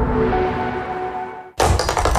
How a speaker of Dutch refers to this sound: Luister eens. Dat is Tapdans